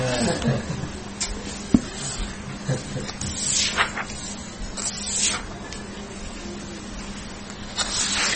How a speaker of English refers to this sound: Sprinkling some water.